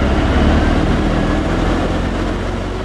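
A loud, steady engine rumble from a diesel vehicle fills the whole stretch, deep and continuous with a broad roar, with no talking.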